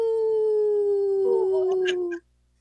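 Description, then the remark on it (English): A person imitates a wolf howl: one long, steady, slightly falling tone held for about two seconds, loud, with faint background chatter before it cuts off abruptly. “I'm not an expert wolf howler yet, but I'll get there.”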